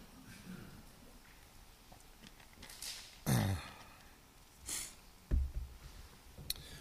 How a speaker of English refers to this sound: Excuse me, sorry about that, and this lapel mic doesn't help, does it? As I clear my throat in your ear.